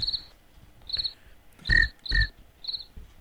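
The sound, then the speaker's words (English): A voice imitates cricket chirping with five short, high-pitched chirps in an uneven rhythm, two of them louder and breathier, standing alone against a quiet background. “I could talk cricket.”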